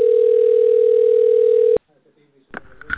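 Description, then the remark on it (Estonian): A loud, steady telephone line tone while on hold after calling the Allfresh sales department with all lines busy hums unbroken for nearly two seconds, then cuts off abruptly into a brief hush before a voice begins speaking on the line. “Hetkel on kõik liinid hõivatud. Jääge palun ootele.”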